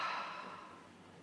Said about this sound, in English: Exhale heavily and just release. Breathing in and exhaling. One more time, breathing in and exhaling.